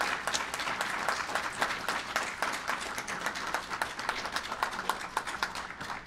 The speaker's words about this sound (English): all of us give him a round of applause and thank him for his service.